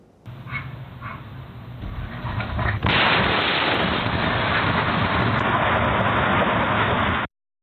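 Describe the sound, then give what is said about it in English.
A dog barks over faint outdoor noise, then a sudden, massive house explosion booms and turns into a sustained, distorted roar for several seconds, recorded by a Ring doorbell camera a few doors down in a neighborhood outside Pittsburgh, Pennsylvania. “Ring doorbell video from a few doors down captured the moment of the explosion.”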